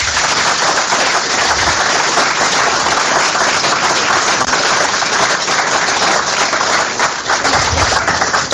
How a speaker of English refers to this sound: A massive thanks to the girls of the Newark Town Football Club, who are forming a guard of honour in their Warwick's Warriors football kit. Round of applause for the girls.